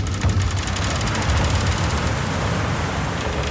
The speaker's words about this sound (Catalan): Hi ha un so que és molt específic, que diem nosaltres, l'estela del vaixell, no? La fricció que fa el casc del barco amb el mar, no? Pues aquest soroll de com el vaixell va obrint-se camí a través de les onades, a través del mar, no?